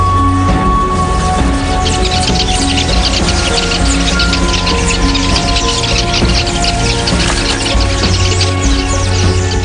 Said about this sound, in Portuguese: Quando cochila, nem o canto forte das queleias de cabeça vermelha é capaz de acordá-lo.